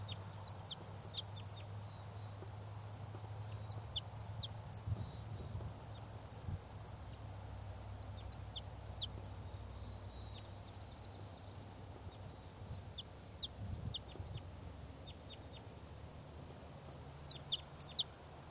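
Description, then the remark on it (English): A male type 5 crossbill, up in the top of a tree, sings about five short, high-pitched song phrases, each a quick burst of chirpy notes separated by several seconds of pause, over a low steady background hum. “This bird is giving a few song phrases.”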